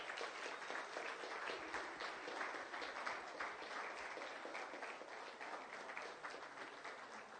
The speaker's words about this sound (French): On peut les applaudir ce matin.